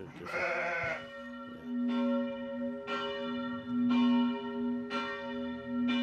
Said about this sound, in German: Die Glocken der Abtei läuten zum Mittagsgebet.